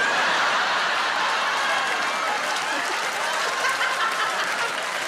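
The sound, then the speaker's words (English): A live theatre audience applauds and cheers steadily, and a woman's cheer from the grand circle rises within the dense, continuous clapping. The crowd noise is loud, with no speech. “I love that there's a lady cheering that I've just implied that she's from the felon, because you're clearly from the felon, yeah!”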